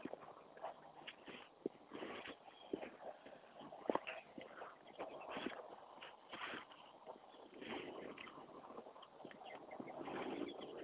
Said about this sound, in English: Some birds chirping. Very pleasant morning, all told.